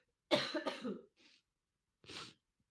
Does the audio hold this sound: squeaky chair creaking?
no